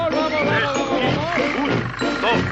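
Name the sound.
elephants trumpeting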